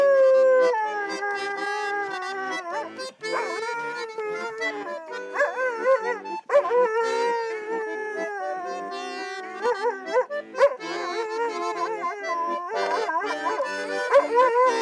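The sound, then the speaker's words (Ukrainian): A dog kept by soldiers in an army unit howls in long, wavering, rising and falling notes along with steady, reedy music, fairly loud, carrying on almost continuously with brief breaks. “Армійці показують, собака може співати під будь-що.”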